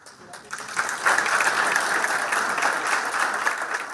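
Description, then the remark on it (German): Steady applause from a group as a Brazilian president smiles for photos and holds up a signed document for a green growth program, a dense patter of many hands clapping that swells after the first second and holds at a fairly loud, even level throughout. “Lächeln fürs Foto, Applaus.”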